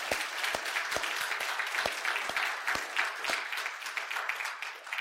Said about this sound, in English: And so on behalf of Grove Bible Church, we glorify God for your service here, and we thank you. Let's give them a round of applause at this time.